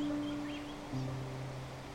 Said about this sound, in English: You can't see it yet, but as you can hear, nearby is a wonderful waterfall that fills this place with the sound of flowing water.